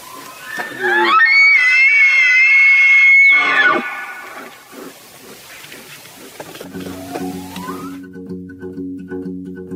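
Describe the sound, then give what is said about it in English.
An elk bugles: a loud, shrill whistle rises, holds for a few seconds, then slides down into a rough bawl. Lower, throaty grunts and a rumbling tone follow. “and has been variously described as a low, wheezing, almost asthmatic whistle that ends in a series of evil-sounding grunts, and as a shrill shriek descending the scale into a blasting bawl. In other words, you have to hear it for yourself.”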